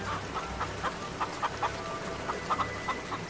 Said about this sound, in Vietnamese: Trời, sao bên kia lắm gà vịt thế nhỉ?